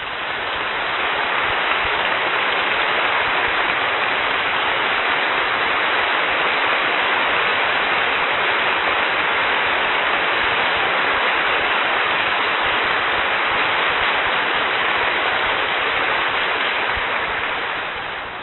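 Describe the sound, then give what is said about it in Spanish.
A large crowd of people applauds inside a basilica in a dense, unbroken wash of clapping that holds steady and loud for the full stretch, with no voices rising above it. “ella insistió en traerlos y aquí están estos dos muertos, entre los aplausos del pueblo.”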